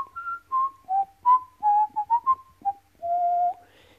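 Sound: human whistling a tune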